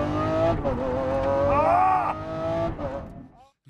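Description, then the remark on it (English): A loud Lamborghini Aventador SVJ supercar engine revs and roars as it is driven, its pitch rising and falling through gear changes for a few seconds before cutting off abruptly. “having a good time in the Aventador, the SVJ, Super Viagra Jockey.”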